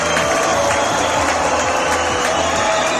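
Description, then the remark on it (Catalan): A large crowd at the Gran Teatre del Liceu in Barcelona greets the new mayor, Collboni, with steady, dense applause mixed with cheering and scattered whistles, loud and continuous throughout with no distinct voices standing out. “El van rebre alhora amb xiulets i amb aplaudiments.”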